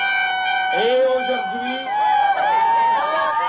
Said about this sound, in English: It certainly wasn't easy to deliver a speech over the noise of the protesters who came equipped to make all the noise they wanted.